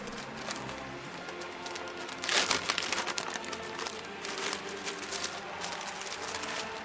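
Crinkly paper rustling as a sheet picked up from the floor is handled and unfolded, with a sharper crackling burst in the middle, then softer scattered crinkles, fairly quiet, no talking.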